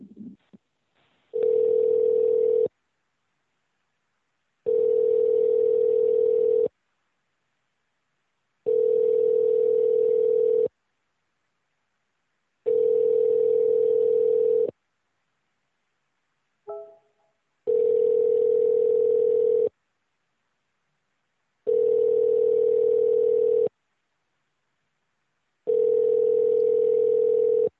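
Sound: telephone dial tone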